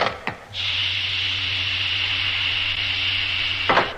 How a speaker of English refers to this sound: And open the door. Oh, yes.